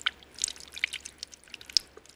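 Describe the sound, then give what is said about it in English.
Water is poured into a bowl for a cat, giving a brief run of light splashes and bright, irregular drips, fairly quiet, with no voices. “Give the cat some water.”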